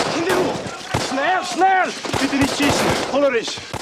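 Sharp cracks of gunfire burst out at irregular intervals while several voices shout and call out over the noise, the shots cutting through the yelling.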